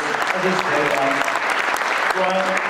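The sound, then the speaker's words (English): An audience claps steadily in a dense, sustained burst of applause, with faint voices murmuring underneath. “I think actually it would be great to have a round of applause”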